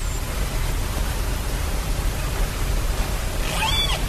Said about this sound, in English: That is sound recorded with equipment placed underwater near the busy shipping lanes off Vancouver Island in Canada. Scientists at the University of Victoria have studied the recordings.